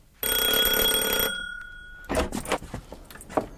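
A doorbell rings loudly in one bright, buzzing burst lasting about a second, then a thin tone lingers briefly before a run of clattering, shuffling noises.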